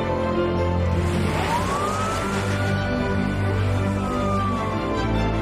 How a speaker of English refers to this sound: they hop into Greg's police car, and gravel and slush spray up from the tires as they speed off